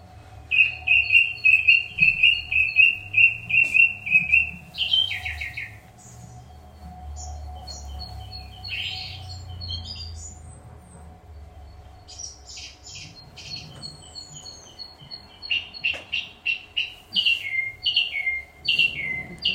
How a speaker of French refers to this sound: vous allez entendre cette répétition, je vous le remets, qui est caractéristique. Il n'y a pas beaucoup d'oiseaux qui sont comme ça. Donc, improvisateur et en même temps répétiteur.